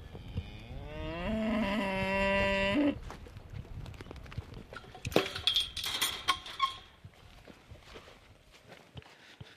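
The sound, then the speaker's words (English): A single long, loud cow moo on a hillside farm rises and holds for about two seconds, followed by shuffling, rustling and a few scattered thuds like hooves or footsteps. “I'm keen to meet your cow.”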